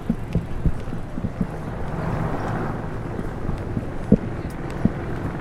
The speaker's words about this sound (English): You can hear the helicopters overhead.